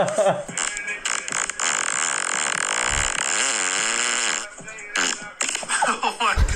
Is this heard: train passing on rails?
no